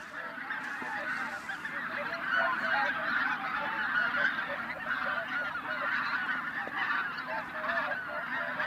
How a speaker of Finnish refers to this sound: Nyt lähti hanhet.